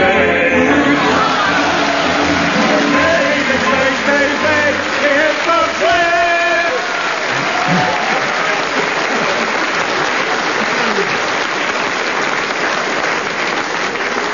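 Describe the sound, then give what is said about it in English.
A sustained burst of audience applause, loud and dense, lasting well over ten seconds with a few voices cheering faintly within the clapping before it gradually thins. “They were nowhere near it, but since they got exactly the same amount of applause from the audience, I suppose I better get them the same amount of marks, minus two.”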